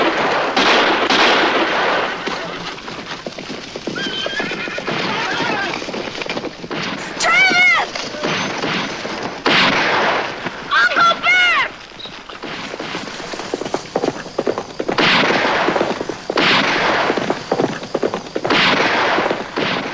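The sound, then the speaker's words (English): Sharp gunshots crack repeatedly as a surprise attack opens a battle against Apache Indians who were fighting among themselves over horses, mixed with horses' hooves, shouting voices and whinnying, loud throughout. “But suddenly, Pack stood up and fired, and the battle was on.”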